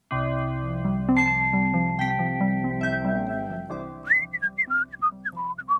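After a few seconds of sustained instrumental music, a person whistles a short tune, a quick run of clear, separate notes that rise and fall.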